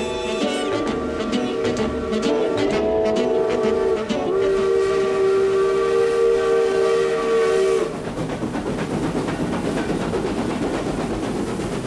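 A train rumbles past while its horn blares a long, steady tone for several seconds, then cuts off, leaving the loud clatter and roar of the cars rolling on.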